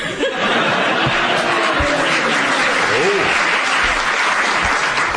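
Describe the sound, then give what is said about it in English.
A crowd applauds steadily for several seconds, a dense, sustained wash of clapping with a few voices and light laughter mixed in. “I don't know why they're clapping.”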